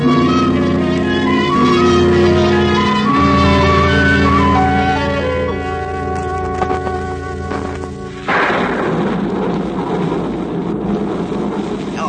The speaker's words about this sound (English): Oh, of all mornings to have bad weather. I'm sure no one will want to come over. It does look like a storm.